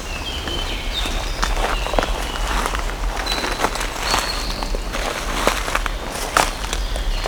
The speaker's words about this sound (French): Nous marchons entre les feuilles mortes, les brindilles qui craquent, les fougères, les premiers massifs de fleurs.